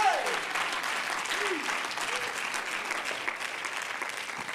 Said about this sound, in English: Let's clap our hands unto him and bless his name. Praise God.